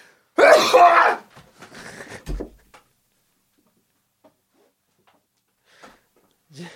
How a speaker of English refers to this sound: I fell hard while I did an overdramatic sneeze.